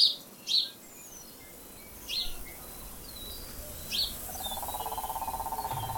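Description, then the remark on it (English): Several short, bright bird chirps ring out at intervals against a soft outdoor background hum, with a steady faint pulsing buzz joining in toward the end. No one speaks. “And just to chill and enjoy the nice breeze and the beautiful birds.”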